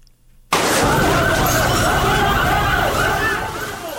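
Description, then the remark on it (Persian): A fire engine siren, coming to put out a fire at the COVID-19 hospital in Ghor province, starts abruptly after half a second of near silence and wails loudly and continuously, its pitch sweeping up and down over a dense rumble of engine and street noise. “صدای موتری آتش فشانی است که برای مهار آتش سوزی به محل این رویداد آمده است.”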